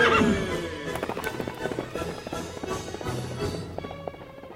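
The Lone Ranger's great horse Silver whinnies loudly at the start, followed by a steady rhythm of thundering galloping hoofbeats that continues strong, with a busy, layered background throughout.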